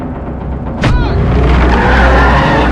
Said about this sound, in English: He spins the steering wheel around as he speeds away.